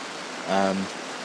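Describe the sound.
Steady rain patters on a tent on the last day of camping, around 9 o'clock on a Friday morning, in a constant, even hiss, with a brief voiced sound rising over it near the middle.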